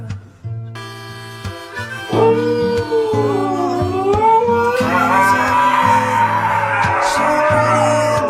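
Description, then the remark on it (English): Huskies howl in long, wavering, sliding cries over a steady musical accompaniment, several voices overlapping and growing louder and more layered toward the end. “Those huskies at the end.”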